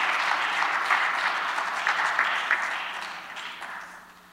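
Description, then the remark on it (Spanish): A large group claps steadily together for brothers being received as new church members, a dense, continuous wash of applause that fills the space and gently tapers off toward the end, with no voices standing out. “Vamos a darles un aplauso a nuestros hermanos queridos.”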